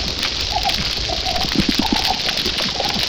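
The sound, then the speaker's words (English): A healthy coral reef recorded underwater: a dense, steady crackle of snapping shrimp, with short birdlike chirps and a quick run of low grunting pulses from fish. No one speaks. “And this is really the sound of a healthy reef here.”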